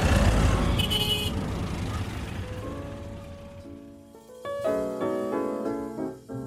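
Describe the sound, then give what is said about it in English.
Dense street traffic rumbles in New Delhi, then several car horns honk in overlapping bursts, some long and sustained, building into a busy chorus of horns over the engine noise. “For me, I think I can understand human nature and my place in the universe a little bit better in and the hecticness of all this traffic than I could by sitting still for 10 hours.”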